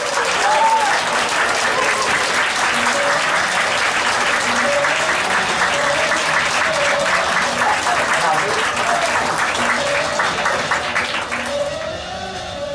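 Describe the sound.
Loud, sustained applause from a large audience welcoming an internet marketing lecturer onto the stage: dense steady clapping with cheering voices mixed in, holding strong for about twelve seconds before easing slightly at the end.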